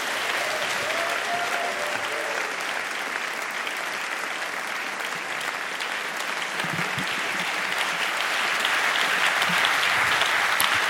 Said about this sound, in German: Hier die Schweizer Preisträgerin des Salzburger Stiers 2019. Bitte Applaus für Patti Basler!